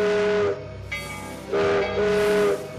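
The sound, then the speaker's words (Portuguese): A steam train whistle blows three loud, sustained blasts, the last two close together, each a rich harmonic wail over a breathy hiss of steam, with no voices. “Um trem atravessa o vento e vem rebolando, fazendo graça, trazendo para o meio da praça a memória de um outro tempo.”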